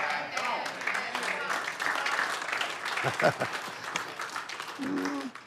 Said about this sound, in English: I feel good that you're clapping. You're not setting on me.